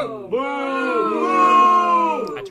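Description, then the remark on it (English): A soundboard wave-file sound effect of a crowd booing in a sustained, droning chorus of low voices, starting abruptly and holding steady for about two seconds before cutting off. “Soundboard, you've been booed by the wave file.”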